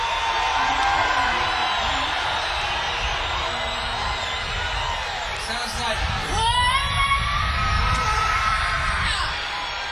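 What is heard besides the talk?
audience yelling and whooping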